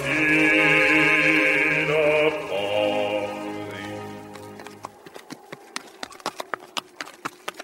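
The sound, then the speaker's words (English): Sustained music fades out, then the hooves of a donkey carrying Mary clip-clop in a steady walking rhythm, crisp, with sharp regular knocks continuing to the end, on a cold, dark journey. “On the donkey?”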